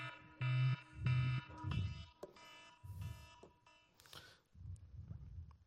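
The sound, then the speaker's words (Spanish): An alarm blares in repeated harsh, buzzing bursts, loud, pulsing several times in a row over a low rumbling background with no talking. “Estoy buscando la alarma.”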